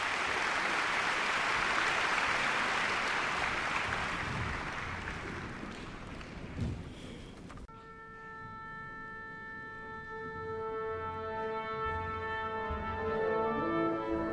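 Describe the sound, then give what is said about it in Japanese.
Sustained, dense applause from a large audience and the NHK Symphony Orchestra as conductor Herbert Blomstedt and Maria João Pires bow together fills the first half, then fades as the NHK Symphony Orchestra begins tuning with steady, held pitches layered across many instruments. “N 響の皆さんからも大きな拍手が送られているところです。”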